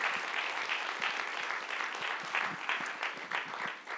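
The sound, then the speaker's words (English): An audience claps steadily, a dense patter of many hands at an even, moderate loudness for the whole stretch, with no voices on top. “Yes, clap.”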